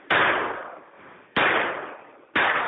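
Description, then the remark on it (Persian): Three loud blasts from homemade grenades and Chinese-made firecrackers go off about a second apart in Tehran, Iran, on the last Wednesday of the Iranian year, each a sharp crack followed by a long, echoing rumble that fades before the next one. “صدایی که شاید در میان صدای حاصل از نارنجک های دستساز و ترقه های ساخت کشور چین گم شده باشد.”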